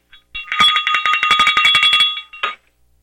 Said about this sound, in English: It's time to wake up the sheeple. My little sheep bell there.